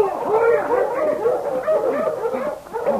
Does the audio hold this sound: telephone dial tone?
no